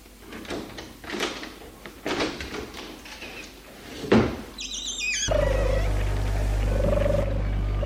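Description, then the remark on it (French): Scattered knocks and clicks lead to a thud and a brief high squeak as a French window is opened, and then a steady wash of outdoor noise swells in and continues. “Après avoir bien regardé la pièce, il va toucher un à un les meubles, puis ouvrir la porte-fenêtre.”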